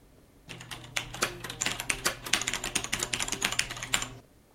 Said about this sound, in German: Fazit: Millionen von Nutzern kennen heute nichts anderes mehr als das Tippen auf Gummimembrantastaturen, die vom Prinzip her nichts anderes sind als auf Schreibtischgröße aufgeblasene Taschenrechner oder Fernbedienungen.